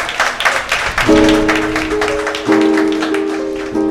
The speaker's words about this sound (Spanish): Sí, después de los aplausos, aparte de eso, me dejan los regalos ahí sobre la mesa.